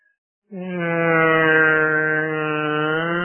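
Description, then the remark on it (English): After a brief silence, a loud siren blares in, holding a steady, buzzy, harmonic-rich tone that sustains without pause to the end. “You don't have to close your eyes, but just picture this, a black scene, nothing on the television, and you hear a siren.”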